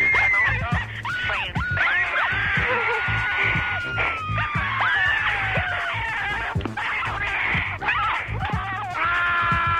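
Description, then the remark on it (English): Shrill, high-pitched screaming left as a phone message on an answering machine fills the whole stretch, with several wavering cries overlapping and sliding up and down, loud and continuous over a low background rumble. “But since I have rung you anyway, I might as well just add a little scream.”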